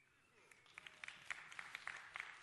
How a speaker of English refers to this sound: I wasn't looking for a clap, but hey, you know, if you want to do that, that's fine by me.